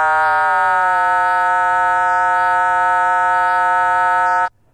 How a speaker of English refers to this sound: When you hear various tones, as I change the frequency of the control oscillator, hear various tones above and below the audio tone. These are called combination tones.